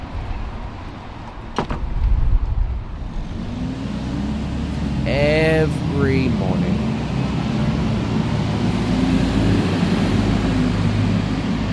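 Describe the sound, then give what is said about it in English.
Heavy traffic of cars, trucks, taxis and buses rumbles steadily on Broadway in Sydney CBD at 9:10 a.m., with engines droning and a brief sharp clatter early on, while a voice speaks briefly over the continuous roar of passing vehicles. “The loud, bombastic sounds of traffic, of cars, of trucks, of taxis, of buses zooming up and down this road.”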